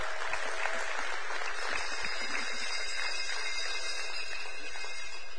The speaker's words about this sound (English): Kids and youth, you're dismissed. Big round of applause.